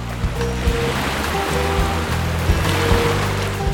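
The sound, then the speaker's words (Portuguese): Water sloshes and slaps steadily against the hull of a ship approaching the port of New York in 1903, with a continuous low rumble underneath and periodic heavier splashes at an uneven rhythm. No one speaks. “Esse som aí da água batendo tem uma explicação.”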